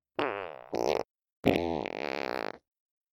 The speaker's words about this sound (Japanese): ほら、弟くんの大好きなお姉ちゃんのおならよ。